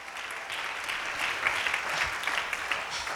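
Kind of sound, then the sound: crowd, audience clapping hands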